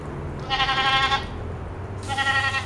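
A goat bleats twice, close and fairly loud, each cry a wavering nasal call lasting under a second, separated by a short pause over a low, steady background rumble.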